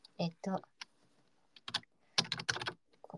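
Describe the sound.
Keyboard typing of a message during a livestream clatters in irregular bursts of crisp clicks, a few quick keystrokes, a short pause, then a dense rapid run before trailing off, with a faint murmur of voice mixed in.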